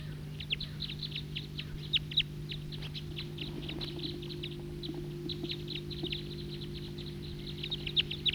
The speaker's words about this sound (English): There's a third bird with the pair. I can't tell. It's either it's a brown bird, either a female or a juvenile. And these are the type 2 birds.